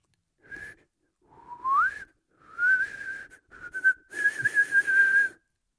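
Someone whistles through pursed lips: a short note, a rising slide, then several longer, fairly steady mid-high tones with audible breathy air around them. No one speaks.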